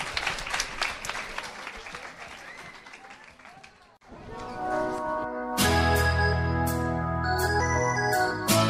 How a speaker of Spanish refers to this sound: un fuerte aplauso para ellas. Un fuerte aplauso.